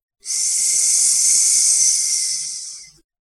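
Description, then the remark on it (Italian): A single sustained hiss made with the voice, a steady breathy rush lasting about three seconds, fairly loud, fading slightly at the end, with no talking. “Io feci un sibilo.”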